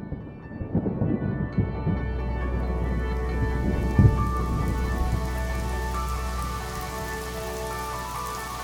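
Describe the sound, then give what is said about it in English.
Steady rain patters on a surface while a low, sustained rumble of thunder rolls underneath, with a brief sharper crack around the middle; no voices, just a continuous monsoon-season thunderstorm in the desert. “When it finally arrives, we call it the monsoon season.”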